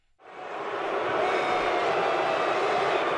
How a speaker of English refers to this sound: He's going to get booed almost anywhere, but especially Dallas. But no, as you'll hear in this clip, he got a rousing ovation.